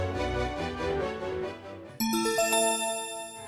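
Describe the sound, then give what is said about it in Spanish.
A short stretch of orchestral music gives way to a bright bell chime, the page-turn cue in the Cuentos Inolvidables read-along story of Aladdin, several clear ringing tones stepping in pitch and sustaining with a shimmering decay. “Al oír la campana, dale vuelta a la página.”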